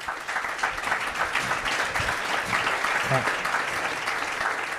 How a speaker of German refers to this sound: Deswegen an dieser Stelle mal Dankeschön und vielleicht auch einen kurzen Applaus.